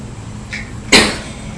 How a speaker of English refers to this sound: You hear lots of doors banging.